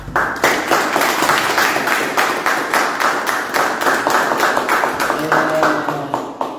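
An audience applauds the speaker's brother steadily, many hands clapping in a dense, continuous patter at a fairly loud level, with faint murmuring voices beneath and no break in the applause.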